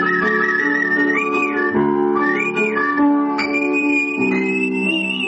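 Someone whistles a sustained, gliding melody, clear and prominent over a steady instrumental accompaniment with rich lower chords, playing continuously without any talking.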